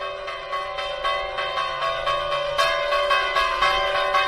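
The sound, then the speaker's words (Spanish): The bells of the church of San Martín de Tours in Perilla de Castro, rung by a man on a Sunday to call the faithful to mass, ring out in a steady, repeated rhythm, their strikes overlapping into a rich, sustained metallic hum with lingering overtones, fairly loud, with no voices present. “tocando las campanas cada domingo para llamar a misa a los fieles y, si es necesario, a los infieles.”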